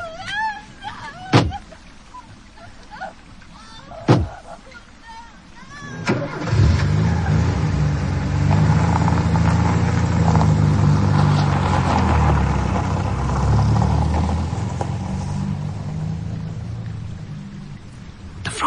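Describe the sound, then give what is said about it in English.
Two sharp thuds, like car doors shutting, as a woman is shoved into the car, then an engine turns over and the car rumbles steadily and loudly as it pulls away, the noise easing only slightly toward the end. “Rising up, you're shoving her in the car.”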